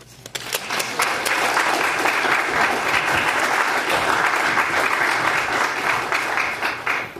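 An audience claps for a speaker being introduced, steadily for several seconds, a dense, even wash of many hands with no voices over it, rising quickly at the start and holding a constant level throughout.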